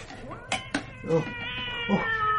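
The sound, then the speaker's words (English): A cat lets out a long, wavering, high-pitched meow that stretches into a drawn-out yowl, preceded by two sharp clicking knocks. “It is entirely natural for a cat to have glowing eyes.”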